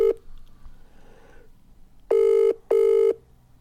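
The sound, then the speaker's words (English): A telephone ringing out on an outgoing call: two steady, loud electronic ring bursts, each about half a second, separated by a short gap, preceded by a brief tone and quiet background. “I just like the ringing out.”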